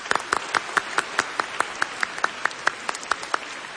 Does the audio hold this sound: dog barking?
no